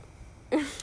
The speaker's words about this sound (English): That's not an answer. Deep breathing isn't an answer.